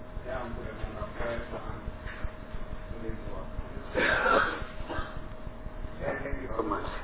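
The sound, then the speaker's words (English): A man lets out a short, harsh cough in a corner midway through a formal session, heard over steady room noise and faint background voices. “I'm worried about … coughing that corner.”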